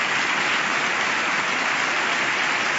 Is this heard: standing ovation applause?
yes